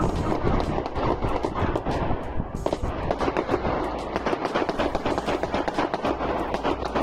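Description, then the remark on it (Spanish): Rapid gunfire rings out in dense, overlapping bursts, many sharp cracks fired in quick succession for several seconds, loud with no pause between volleys: a shootout between several people in the La Mina neighbourhood of Sant Adrià del Besòs, near Barcelona, with more than a hundred shots fired. “En él, la semana pasada, se produjo un enfrentamiento entre varias personas que llevó a un tiroteo donde se efectuaron más de un centenar de disparos.”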